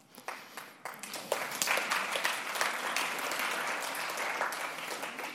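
An audience breaks into applause, starting with a few scattered claps and swelling into steady, sustained clapping from a crowd.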